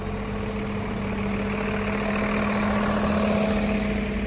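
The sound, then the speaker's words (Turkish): A city bus bound for Buhara Mimar Sinan in Çorum idles steadily with a deep, constant rumble and a low hum that holds for several seconds, slightly rising in loudness toward the end, with no voices. “Mesela şu otobüs Buhara Mimar Sinan'a gidiyormuş.”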